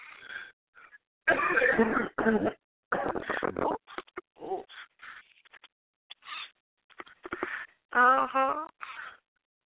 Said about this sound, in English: Oh, and I'm sniffling and you coughing. Ooh, pat you on your back. But you're too far away.